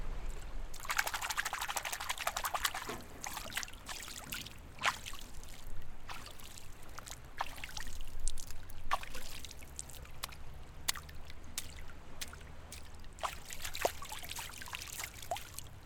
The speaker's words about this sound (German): So, jetzt könnt ihr euch wahrscheinlich schon denken, wo wir sind. Wir sind hier nämlich an einem Fluss.